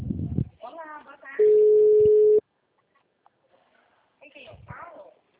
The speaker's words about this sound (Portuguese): Chamando, ó, no telefone.